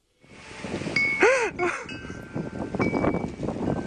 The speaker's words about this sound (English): What's that noise? Is he near a wind chime?